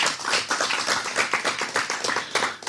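A crowd claps steadily to thank a guest at the close of a conversation, many hands making a dense, crackling patter of bright, sharp strikes that holds at an even, fairly loud level throughout, with no voices.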